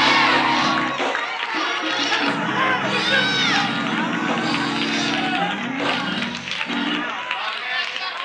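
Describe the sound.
A large church audience shouts and cheers loudly and continuously, a dense wall of overlapping voices with rising whoops that never lets up across the whole stretch.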